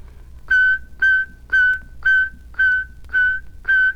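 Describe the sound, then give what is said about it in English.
Seven short, evenly spaced whistled notes on a steady pitch, each starting with a crisp K-articulated attack, played clearly with no talking. “And now then, we have K. Whistle exactly as it's pronounced.”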